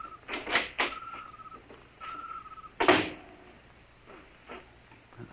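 A small side door of a silo is opened at night with a few scraping, rattling clunks, then a louder burst of scraping around the middle, and a steady mid-pitched squeal drawn out twice between them.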